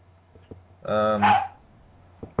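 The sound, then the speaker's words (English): A single loud, drawn-out dog bark, tonal at first and then breaking into a rough, raspy end, lasting about half a second between quiet stretches with a few faint clicks. “That's like our dog.”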